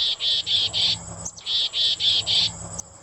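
Crickets and grasshoppers chirping in two runs of four shrill, buzzy pulses, evenly spaced and fairly loud, with a quiet low hum underneath and no voices.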